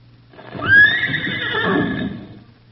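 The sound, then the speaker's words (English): A single horse whinnies loudly, a long wavering neigh that rises and trails off, with soft hoof clopping and low shuffling noise beneath it. “Well, it sounds like a corral. The fence around a corral. Where they keep horses, and the horse would be trying.”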